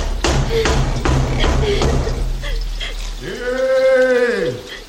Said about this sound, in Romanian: Cine bate că la poarta unui han de mauri?